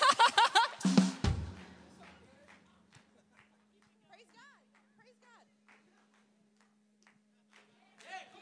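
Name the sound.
audience clapping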